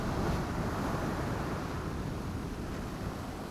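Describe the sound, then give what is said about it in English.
A steady, hissing wash of ocean waves, a constant broad roar with no distinct breaks, easing slightly over a few seconds. No one speaks. “Feel your breath flowing like the waves here.”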